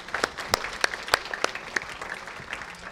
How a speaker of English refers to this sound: So as we begin today's message, I want to give a special appreciation to all the grandparents and all the special elders that are here. So let's all give everyone a round of applause.